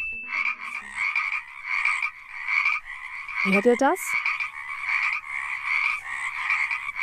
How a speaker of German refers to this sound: Ein Froschkonzert! Da müssen dann ja irgendwo die Frösche sein.